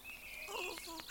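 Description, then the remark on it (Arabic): Birds call in a quick, chattering run of warbling, rising and falling notes, with a couple of sharp chirps toward the end and no voices. “ما أجمل هذا الطيور.”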